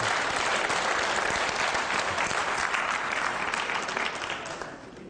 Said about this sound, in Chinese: 哇，哦，大家掌声鼓励，这个大顺的后代来了。